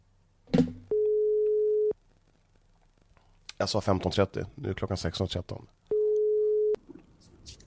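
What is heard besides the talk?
telephone ringing tone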